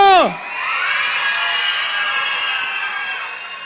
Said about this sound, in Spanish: ¿Cuántos están contentos? ¡Un grito de júbilo!